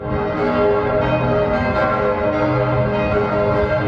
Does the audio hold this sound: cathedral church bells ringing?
yes